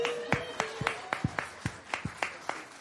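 Sparse audience applause: a handful of hands clapping in a loose, steady rhythm, each clap distinct, fairly quiet and a little distant, with no one speaking.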